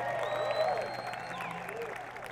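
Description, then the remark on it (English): A live audience at Cave Fest applauds steadily for a musician on the Dobro, a dense wash of clapping with some faint crowd noise and a lingering tonal ring from the stage in the background. “Another big round of applause for … on the Dobro.”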